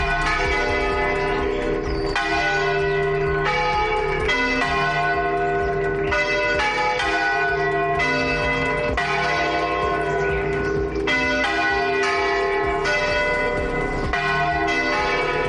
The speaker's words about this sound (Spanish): a las 11 de la mañana se han escuchado las campanas en toda la provincia de Cáceres por la Extremadura despoblada. Así han sonado en Cáceres.